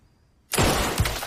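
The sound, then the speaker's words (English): After a moment of silence, a pumpkin smashes hard against a wall with a sudden loud, wet crunch, followed by a second thud and a brief spray of splattering debris. “Pumpkin splatters onto the wall.”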